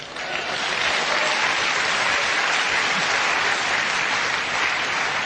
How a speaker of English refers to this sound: Clap.